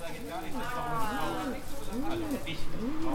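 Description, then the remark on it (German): A pigeon coos in a steady rhythm, four soft rolling calls spaced evenly, each rising and falling, over a constant low background hum. “Als die Taube zurückkehrt, ist Mitternacht schon lang vorbei.”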